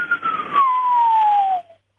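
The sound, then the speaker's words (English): A radio whistler, radio waves produced by electrons moving along Earth's magnetic field lines: a single steady tone gliding smoothly downward in pitch for about a second and a half over a bed of crackling static hiss, then cutting off into silence. “And so what you can hear it when you're listening to a radio, you'll often hear what are called whistler modes. It'll sound like someone whistling, but with a pitch changing.”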